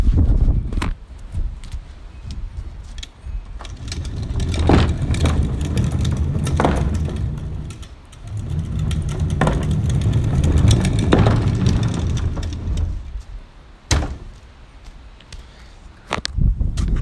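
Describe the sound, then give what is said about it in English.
A wheeled trash can rolls down a paved driveway to mimic thunder, a long, loud low rumble punctuated by sharp clacks and bumps, creating a thunder-like roar that swells and fades with no voices. “In this one, I will be making a thunder sound with a trash can moving down my driveway.”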